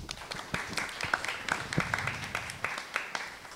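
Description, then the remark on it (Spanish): An audience applauding as maestro Luis Gerardo Ayala Real of the Red Nacional de Cómplices por la Igualdad is welcomed to the presidium at an agenda presentation, dense overlapping claps forming a steady crackling wash at moderate loudness, with a few sharper individual claps standing out, sustained for a few seconds. “Doy la bienvenida al maestro Luis Gerardo Ayala Real, quien es de la Red Nacional de Cómplices por la Igualdad, para quien pide un fuerte aplauso.”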